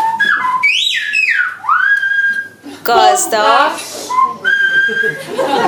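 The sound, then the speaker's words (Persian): Whistled language speech: clear, high whistled tones that swoop, rise and hold steady in word-like phrases, broken in the middle by a short stretch of ordinary spoken voice. “زبان‌های صوتی دو دسته هستند.”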